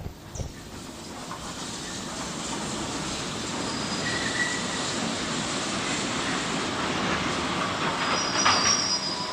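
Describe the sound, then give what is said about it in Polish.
A train rumbles loudly and steadily, with thin, high-pitched wheel squeals cutting in now and then as it brakes. No voices. “Stoimy. W szczerym polu? Ktoś pociągnął za hamulec?”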